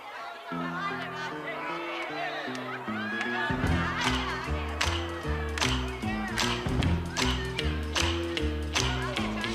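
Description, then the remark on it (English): A song's instrumental intro: steady bass and chord patterns open softly, then drums and sharp percussive hits kick in, lifting into a fuller, louder band groove. “All right, we're going to cut to a track.”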